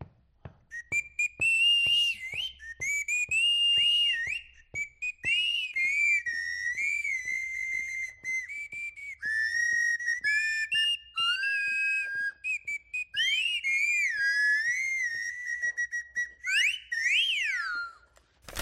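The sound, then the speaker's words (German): Two players perform a short concert on homemade bagpipes made from recycled materials: a lively, piercing tune runs almost without pause, the melody from the lower pipe sliding between high notes over a faint steady drone from the drone pipes, punctuated by short sharp clicks. “Die Luft aus der Lunge landet im Windsack und geht von dort in die Begleitpfeifen, die so eine Art Grundton spielen.”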